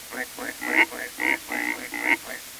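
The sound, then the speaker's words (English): A man imitates a pig, giving a quick series of about eight nasal grunting oinks in a steady, bouncy rhythm, moderately loud. “The pigs join the chorus with a”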